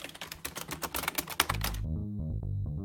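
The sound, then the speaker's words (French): Rapid typing on a computer keyboard, a quick run of crisp clicks lasting under two seconds, after which a low musical tone swells in and the tapping stops. “Monaïda, tu en as trouvé un autre? Oui, le clavier.”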